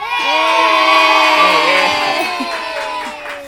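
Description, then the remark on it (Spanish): A large group of schoolchildren from the Tierra del Fuego school shouts and cheers together, a loud, sustained chorus of high voices that holds for several seconds before slowly thinning out. “A ver, quiero un aplauso, un grito de todos los chicos de la escuela, todos.”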